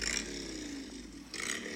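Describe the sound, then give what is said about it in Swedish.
A motorcycle engine drones steadily, with a harsher, louder rev at the start and again near the end. No one speaks. “En motorcykel.”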